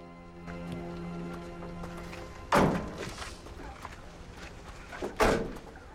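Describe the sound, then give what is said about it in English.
Two heavy doors are shut in turn by an agent, each a loud, booming thud about two and a half seconds apart, against a low, steady hum of room tone. “She nods to one of the agents to shut the doors.”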